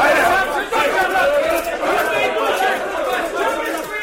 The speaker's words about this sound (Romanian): O mulțime gălăgioasă întovărăși pe arestat până la primărie, unde țăranul petrecu noaptea învățând articolul cu pricina.